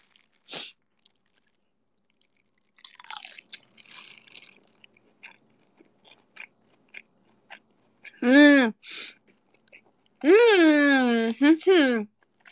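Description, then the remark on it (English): Chewing of extra-fried chicken sausage dipped in sauce: a sharp bite, a burst of crunchy mastication, then scattered small wet clicks, followed by a few loud voiced hums near the end. “I will go for a bigger chew this time.”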